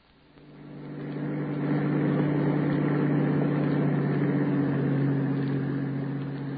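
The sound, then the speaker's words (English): A bus engine rumbles steadily at idle, a low droning hum with a throbbing undertone that swells up quickly at the start and then holds constant, with no voices. “You can get a job 10 minutes after the bus pulls.”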